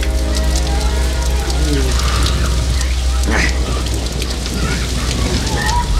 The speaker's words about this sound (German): Langsam verschwand die Sonne hinter einer dichten Wolkendecke und bald darauf fielen die ersten Regentropfen. Innerhalb weniger Augenblicke goss es in Strömen.